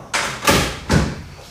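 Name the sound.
door being closed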